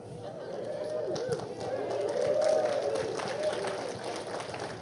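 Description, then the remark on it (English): A large audience claps steadily for the whole stretch, a dense wash of many hands with a murmur of crowd noise underneath, swelling slightly in the middle before easing off. “You notice I'm not clapping.”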